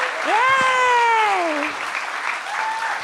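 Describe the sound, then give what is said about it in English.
Steady, dense applause, a round of applause for the guests of a comedy show, fills the whole clip, with a single voice letting out a long rising-then-falling cheer over the clapping near the start. “Let's have one more round of applause for all of my guests.”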